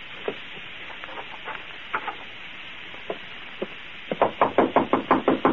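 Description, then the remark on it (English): Footsteps approach in a hallway: a few scattered, soft taps at first, then a quick, steady run of loud footfalls in the last second and a half, with no talking. “I hear footsteps. He's right, out in the hall.”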